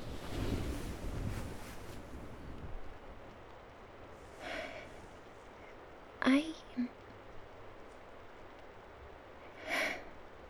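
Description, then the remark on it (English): Stormy wind roars in a strong, broad gust at the start, then settles into a steady rushing background, broken by a few brief sharp bursts near the end. “To be honest, Master, I cannot sleep when it is storming. Wind howling, the rain, thunder, the rage of Mother Nature.”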